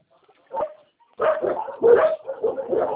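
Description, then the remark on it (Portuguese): Dogs bark: one short bark, a brief pause, then a rapid, overlapping run of loud barks that continues without letup. “quinto agora é cheio de cachorro aqui.”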